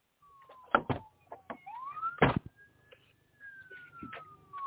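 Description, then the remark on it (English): A fire truck siren wails as it passes, a steady tone slowly rising and falling in pitch, while sharp clunks and rattles break in over it. No one speaks. “I got a fire truck coming.”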